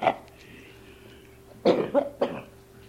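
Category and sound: human body sound, cough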